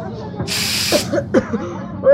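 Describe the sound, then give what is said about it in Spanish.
A single half-second burst of aerosol deodorant spray hisses loudly, then stops, followed by brief voiced sounds and murmurs. “Y a ver, ¿qué le ves de mano a este desodorante en aerosol?”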